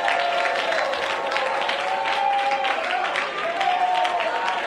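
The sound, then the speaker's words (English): A church audience claps steadily and continuously to the Lord, a dense wash of hand claps with a faint murmur of voices and a couple of sustained tones rising above it. “Oh, clap your hands to the Lord, all you people, and shout unto God with a voice of triumph.”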